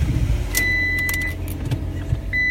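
A car engine cranks with a low, labored churn but never catches on a Monday, while a steady dashboard chime sounds and keys rattle in the ignition.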